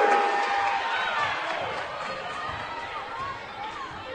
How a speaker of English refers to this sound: Space on the right side, one-on-one, and the first field goal of the second half, and the community crowd comes to their feet.